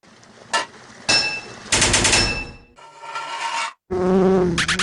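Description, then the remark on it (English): A video game bee's buzzing comes in loud, harsh electronic bursts that start and stop abruptly, with brief gaps between them; the final stretch drops to a lower, wavering drone. “Take that, you crazy bee!”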